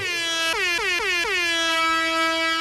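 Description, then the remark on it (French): A loud, sustained air horn, referred to as a siren, blares in a Canadian Tire advertisement with a rich, buzzing harmonic tone, its pitch briefly dipping and recovering four times in quick succession before holding steady to the end. “Mollo sur la sirène?”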